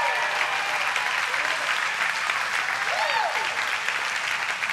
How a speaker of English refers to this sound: How many fathers? Fathers, you want to stand? Give these guys a roaring applause. Fathers in here. Fathers.